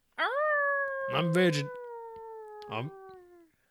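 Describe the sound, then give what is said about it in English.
A voice imitates a howling turkey with one long, drawn-out howl that slowly sinks in pitch, fairly loud, with a couple of short vocal bursts breaking in partway through. “I didn't know that turkeys could howl either.”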